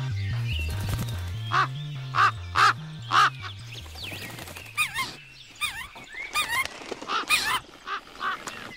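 A crow perched on the branch of a large tree at dusk caws loudly four times in a steady rhythm, then a quicker flurry of harsh caws follows, all over a low, droning musical backdrop.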